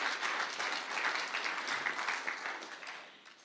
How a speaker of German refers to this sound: Wollen wir Jesus einen Applaus geben? Richtig gut.